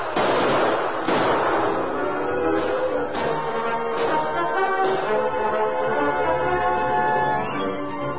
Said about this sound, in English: Keep up the gunfire, boys, and sneak your way in closer. If we don't get Taggart by bullets, we'll get him by fire.